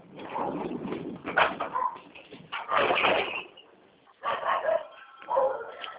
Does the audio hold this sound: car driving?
no